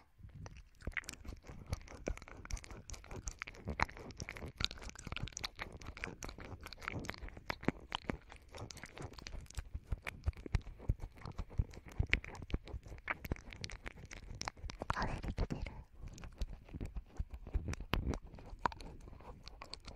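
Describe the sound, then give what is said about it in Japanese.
Tongue licking and rubbing against a microphone: a dense, continuous stream of wet crackles, clicks and scratchy rubs in an irregular rhythm, fairly loud, with no talking. “静感のある音は少し苦手なんですが、舌とマイクの摩擦音みたいな、猫が何かを舐める時みたいな音は好きなので、やってみてほしい。”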